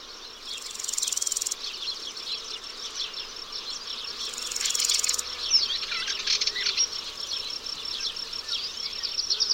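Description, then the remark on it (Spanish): A dense chorus of grasshoppers and crickets on a dry, parched grassy plain fills the air with continuous high-pitched buzzing and trilling, many insects overlapping into a steady shimmering wall of sound with occasional louder surges. “En el horizonte cerrado de las hierbas, infinidad de saltamontes y grillos unen sus llamadas mecánicas para formar un continuo sonoro.”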